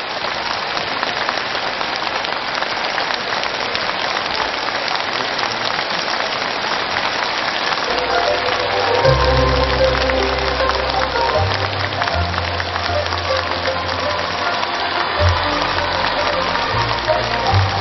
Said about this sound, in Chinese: 现在让我们用最热烈的掌声，恭请尊敬的卢军宏台长为我们慈悲开示。